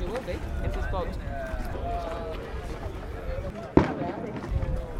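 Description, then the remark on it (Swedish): A single sharp, loud starting-gun crack rings out partway through, starting the race for the smaller boats at 11:00, against a steady background of voices and outdoor chatter at the boat docks by the water. “Där gick startskottet för de mindre båtarna och klockan är 11.00.”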